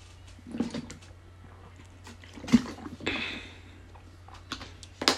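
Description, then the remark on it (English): Someone sips lemon water in a few quiet, irregular slurps with soft swallowing and a breathy exhale between them. Nobody speaks. “Damn, that lemon water good.”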